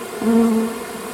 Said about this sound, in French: c'est ce qu'on appelle plutôt la variété Buckfast. Et les apiculteurs aiment bien, parce que c'est des abeilles qui sont assez douces